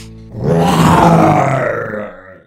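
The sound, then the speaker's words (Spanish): A fierce, deep growl from Gruñón the lion, growing ever angrier, rumbles loudly for about two seconds, swelling quickly, holding a rough, throaty tone, then trailing off. No one speaks. “Y así, mientras Gruñón el León, cada vez más enojado, no paraba de dar feroces y fuertes gruñidos,”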